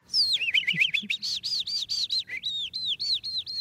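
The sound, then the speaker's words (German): An animal voice imitator imitates a skylark's song with their mouth: a rapid, continuous stream of high, warbling chirps and trills, clear, with no other sounds. “Zum Beispiel diese Feldlerche hier stammt aus dem Mund von einem Tierstimmenimitator.”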